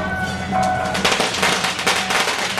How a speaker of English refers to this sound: Now, how this works, actually, is what they do is they go to the various different temples that you will find in any specific area. They will stop in front of the temple, let off some firecrackers, and then move on to the next one.